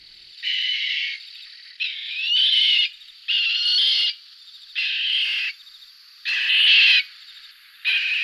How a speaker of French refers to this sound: Là, c'est le grand duc d'Europe, hibou toujours, prédateur redoutable, capable de décapiter ses proies.